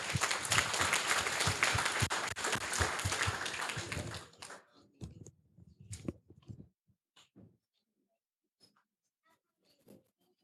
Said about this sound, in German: Vielen Dank und einen Applaus für die Gruppe.